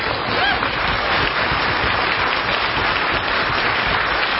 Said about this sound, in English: Actually, student musicians, can you all stand up and let's give them a big round of applause?